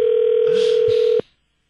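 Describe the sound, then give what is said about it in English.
A single steady telephone ringback tone sounds for about a second over a faint line hiss, then cuts off abruptly, leaving near silence. “Here's the call to Saroy, which I have to say took like, I rang his phone 6 or 7 times.”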